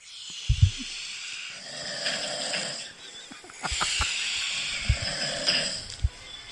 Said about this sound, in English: What's that? No. Oh, that was your snoring.